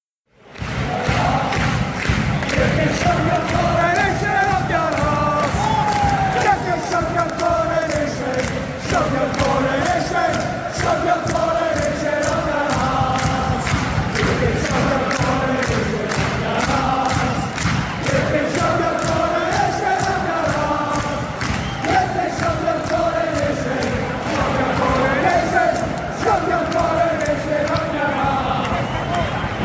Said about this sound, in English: And that was the crowd at a football game between Celtic and Glasgow Rangers in Scotland, and they were just letting King Charles what they know about this whole coronation business.